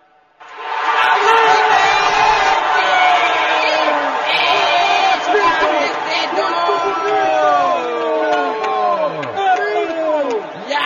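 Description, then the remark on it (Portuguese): An audience shouts and cheers excitedly, many voices overlapping in a sustained roar with whoops rising above it, continuous for about ten seconds; the people present shout "oh, que coisa boa". “Pessoas presentes gritam, oh, que coisa boa, e ainda fazem gargarejo com chá de Santo Daime.”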